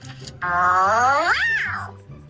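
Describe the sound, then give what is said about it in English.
A person imitates an angry cat with one loud, drawn-out meow, its strained pitch climbing and swelling to a peak before sliding back down, with no other talking. “Then the angry meow, but we only use this one on rare occasions because overall we're a very happy kitten family.”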